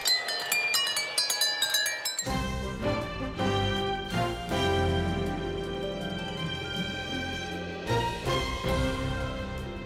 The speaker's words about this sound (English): Striking the right notes 2,840 times, the train plays a medley of 20 classical pieces.